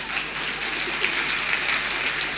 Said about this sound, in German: Ja, ihr dürft klatschen.